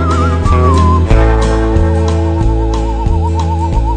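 A person whistles a wavering, vibrato-laden melody over a full musical backing with a steady, thumping beat. Nobody talks.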